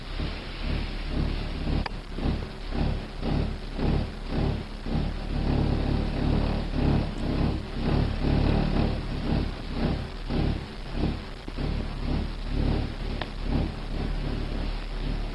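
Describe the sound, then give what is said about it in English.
A deep, continuous rumbling from construction workers next door, at about 7:30 in the morning, with a steady churning texture and rapid repeated pulses throughout. It stays fairly loud and even, and no one speaks. “I think that's just the construction workers next door.”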